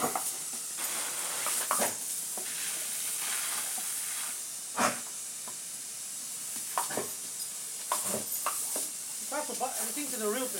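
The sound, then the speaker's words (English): A dog standing on its back legs tries to bite a spray of water, its jaws snapping shut several times at irregular intervals, sharp brief clacks cutting through a steady, loud hiss of spraying water that runs the whole way through. “You might be able to hear his jaws snapping.”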